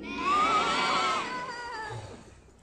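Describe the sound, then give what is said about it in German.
A single sheep bleats once, a loud, wavering, nasal cry that trails off over a couple of seconds, with no voices alongside it. “Was sagt denn ihr Schafe dazu?”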